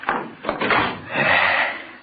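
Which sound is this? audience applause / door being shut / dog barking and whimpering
door being shut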